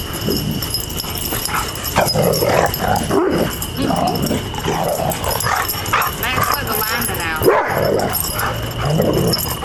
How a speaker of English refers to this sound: There's the neighbor dog again. And they're talking back and forth. And there go the dogs playing bite the snout.